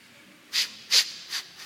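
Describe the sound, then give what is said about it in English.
A person makes exaggerated sniffing noises, three sharp nasal sniffs in quick succession with a fourth just starting, with no talking around them. “And so sometimes you just become a full-time sniffer.”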